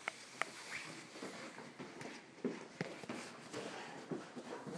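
A dog scampers around playing, its quick pattering steps and scuffles mixing with sharp clicks and rustling, fairly close but quiet, with no one talking.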